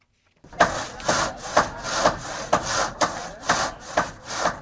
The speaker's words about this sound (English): The sounds of hammers and saws in Haiti signal some progress a week after Hurricane Matthew struck the island, killing hundreds.